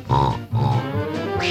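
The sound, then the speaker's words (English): Three or four loud pig grunts and oinks in quick succession, nasal and throaty, each lasting a fraction of a second with no talking around them. “First the ducks make a little, and the pigs make a little.”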